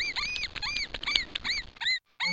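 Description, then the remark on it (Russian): Mice squeaking in every corner squeak in a rapid, busy chatter of thin, high-pitched chirps, several overlapping over two seconds, then a brief silence before one last squeak. No one speaks. “Во всех углах пищали мыши и грызли все, что только им попадалось.”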